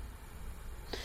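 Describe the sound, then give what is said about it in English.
A brief descending electronic hang-up tone from the GW Connect calling service, heard when a call is hung up, chirps at the very end after a near-silent stretch of faint hiss, short and fairly clear, with no one speaking. “and that's the sound you hear when you hang it up. That little descending tone.”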